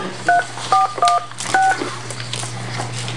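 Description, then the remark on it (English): Four quick phone keypad dialing tones beep in an uneven sequence, each a short dual-pitched chirp, clear, over a steady low electrical hum with no talking. “I don't need to dial a warning, do I?”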